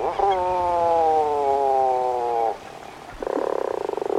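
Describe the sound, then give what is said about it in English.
Puffin calls: a long, steady groaning note with a rich, layered tone, then a brief lull before a loud, rapidly pulsing, buzzy call. No one speaks. “Puffins remain largely solitary for the 7 months of the year they spend at sea.”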